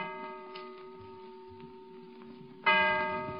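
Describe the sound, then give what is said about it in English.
In a recorded performance of Julius Caesar set in the Senate in Rome, a clock strikes the hour with deep, resonant bell tones: one stroke rings and slowly fades, then another loud stroke sounds near the end. No one speaks. “Peace, count the clock. It's time to part.”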